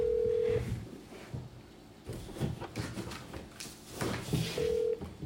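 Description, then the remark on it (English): A phone line rings out with two steady tones separated by a few seconds, over a muffled background of shuffling and handling noise as the call connects; a call placed during a local district board meeting to a person in Flagstaff. “we'll go ahead and make a phone call here to Victor”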